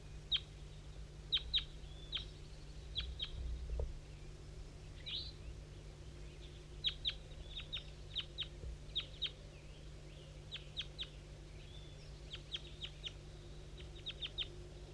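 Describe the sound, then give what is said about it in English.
Repeated short, high-pitched bird calls from a bird identified as 5-3 come in quick clusters and pairs throughout, with softer chirps from a couple of juveniles chiming in, all over a steady low hum of background noise. “Five, three, and a couple juveniles chiming in a little bit, but I think the wild bird went right on past.”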